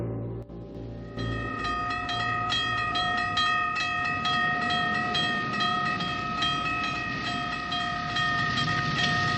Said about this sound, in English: She stops at a railroad crossing, looks to her left, and sees the train coming in the distance.